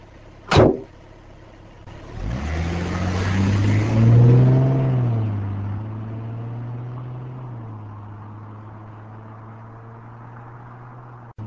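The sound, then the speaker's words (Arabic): A sharp click, then the engine of a private car turns over and revs up, its pitch climbing before settling into a steady running drone that continues to the end. No one speaks. “ده ايه التكريم ده يا حضرة الضابط؟ عربية ملاكي ومالتين بوكس التراحيل.”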